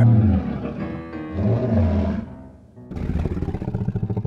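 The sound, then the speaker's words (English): A lion's deep, rumbling purr, loud, with a throaty growl at first, then after a brief pause a steady run of rhythmic rasping pulses. The lion, in a huge house, has been hypnotized by Dougal swinging a keychain. “Is Dougal hypnotizing that lion? 3, 2, and purr.”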